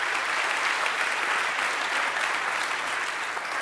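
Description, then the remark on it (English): Steady applause from an audience fills the whole clip, a dense, even patter of many hands clapping at a constant level with no voices rising above it. “And I know about every third sentence you want to clap.”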